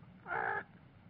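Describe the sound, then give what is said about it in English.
A voice imitates a bird's call with a single nasal, crow-like caw lasting about a third of a second, clear against a quiet, slightly noisy background; it mimics a bird that calls near a window. “One bird works overtime near my window, and all he says is,”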